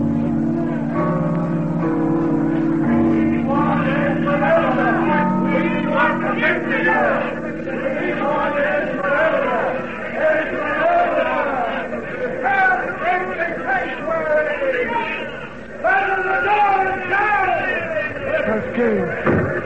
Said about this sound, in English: Wait. What is it? Why does the crowd gather in front of the cathedral?